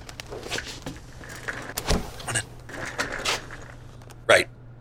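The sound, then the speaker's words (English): A duct-taped cardboard box containing four cassette tapes being pried open: scraping, rustling and tearing sounds in short bursts, ending in one sharp crack near the end, with no talking. “So I crack open the box and inside are four cassette tapes, each with a handwritten label.”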